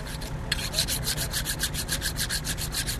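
A small curved knife, used to cut Cabernet grapes by hand during the grape harvest, being sharpened: a quick, steady run of bright, rasping strokes, about six per second, starting after a brief pause over a low background rumble.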